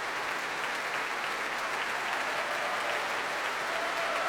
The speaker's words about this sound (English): Nikolai Znaider applauding the audience now and giving them a cheerful thumbs up.